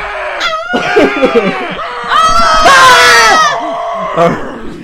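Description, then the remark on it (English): Several voices scream and shriek together in loud, overlapping bursts, swelling to a peak near the middle before trailing off in ragged, high-pitched cries, unbroken for about five seconds. “So if you say if you say douche, then you gotta scream.”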